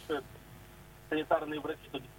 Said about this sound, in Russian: Сергей, выключите, пожалуйста, радио и давайте сами по телефону поговорим, чтобы вы не отвлекались.